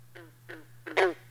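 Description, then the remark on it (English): Three short, twangy green frog calls about a third of a second apart, the last one loudest, over a steady low electrical hum. “Green frogs.”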